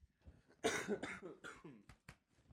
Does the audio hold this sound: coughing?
yes